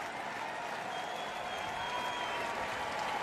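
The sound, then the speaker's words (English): A baseball stadium crowd of 20,132 in Milwaukee gets to its feet and applauds and cheers steadily near the end of a Brewers win over the Rays, a dense continuous roar of clapping and voices that holds at a constant, full level throughout. “Crowd getting to their feet. All 20,132.”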